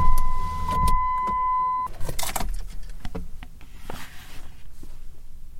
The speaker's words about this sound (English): Let's chill here for a minute. Maybe put down my window. Let's see if I can't hear it.